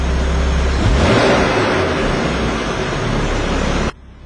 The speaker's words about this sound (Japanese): じゃあ最後にですね、この今スポーツプラスモードのまま今度はマフラーのバルブサウンドコントロールボタンを押して閉じてみます。はい、そしたら同じスポーツプラスでもちょっと静かになったなってのが分かると思いますから。